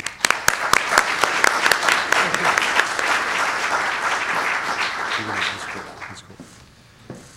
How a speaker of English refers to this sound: And now, to introduce our keynote speaker, Dr. Garson, please give a warm round of applause for President Skorton.